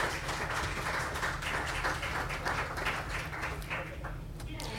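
An audience at a talk applauds with dense, steady clapping that holds for about five seconds, thinning slightly near the end, welcoming two lawyers from the law firm Spirit Legal to the stage.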